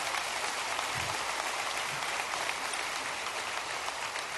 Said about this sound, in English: How about all these volunteers in our church? Let's just give them a round of applause because they matter so much.